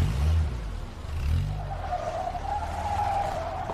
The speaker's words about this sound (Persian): صبح ماشین حامد از پارکینگ خونش میاد بیرون. ماشین مختابم پشت سرش.